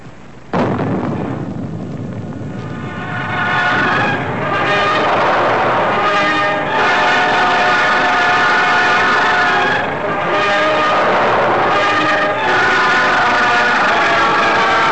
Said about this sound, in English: Echoes of the Baker blast still race across the Nevada countryside.